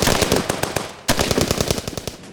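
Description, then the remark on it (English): A loud volley of gunfire, rapid overlapping shots cracking in a dense burst, a split-second pause, then another fast string of shots. No voices. “After a round of shots, we ducked down and reloaded.”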